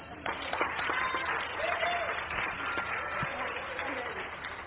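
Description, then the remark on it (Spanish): A steady burst of applause from an audience, many hands clapping densely and continuously for several seconds, moderately loud, with a faint murmur of voices mixed in; applause before a demonstration. “Un aplauso.”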